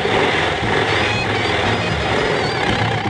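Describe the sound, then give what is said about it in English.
Submarine engines roar with a loud, steady mechanical rumble and churning hiss, holding an even level for about three seconds with no voices. “Start the engines!”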